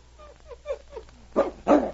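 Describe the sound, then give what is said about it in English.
An excited dog named Buna, on a leash, lets out a string of short, high whimpering whines, then breaks into two loud, sharp barks in quick succession. “See how excited he gets? He knows he's been here before.”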